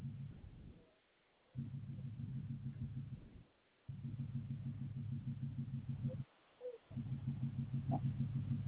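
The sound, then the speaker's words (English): A white Toyota Tundra's engine idles with the keys locked inside and the ignition on: a steady, low droning hum, broken up by a few short moments of near silence before the rumble resumes at the same even level. “So my keys are locked in the car with the engine on, and my gas is going to waste right now.”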